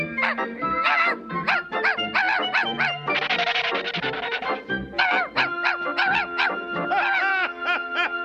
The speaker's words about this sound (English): That little dog couldn't hurt a fly.